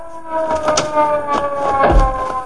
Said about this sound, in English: Hey, Casey, here comes a police car. Yeah, we'll flag it down.